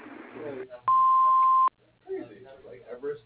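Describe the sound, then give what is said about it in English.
A single loud, steady electronic voicemail answering-machine beep sounds for just under a second, sharp and clipped at both ends, with a person talking before and after it. “Please leave your name and number after the beep, and we'll return your call as soon as we can.”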